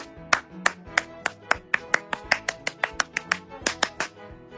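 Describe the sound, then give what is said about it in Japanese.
A single person claps steadily, about eighteen sharp, crisp claps in a quick, even rhythm, each ringing briefly as it echoes around the room, with no voices. “部屋に響いちゃってるね、拍手が、ね”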